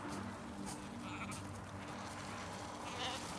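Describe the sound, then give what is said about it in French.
Several sheep bleat over one another in a steady, overlapping chorus, with a constant rustling outdoor background and no talking. “vous êtes toujours occupée comme ça des moutons de vos parents?”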